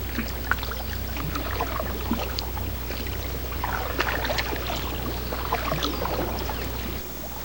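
Canoe paddling along a river: irregular watery splashes and drips from paddle strokes over a steady low rumble, moderately loud and continuous, with no voices.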